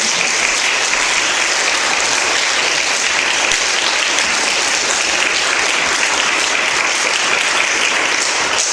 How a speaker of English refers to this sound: Thank you. Thank you. just give one big round of applause?